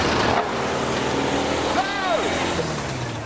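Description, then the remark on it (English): A loud engine roars steadily, then its pitch climbs sharply and falls back in a hard rev partway through, over a dense wash of mechanical noise. “Stormforce are going to throw caution to the wind. Straight off, lots of revs.”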